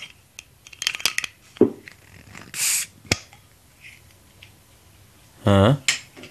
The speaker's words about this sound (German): Es klang, als ob du eine Flasche geöffnet hast. Ja, jetzt ist die Frage, was für eine? Jetzt hast du es schon gesehen. Ich würde mal vermuten, es war eine Limonade. Ja, weil es gelb ist.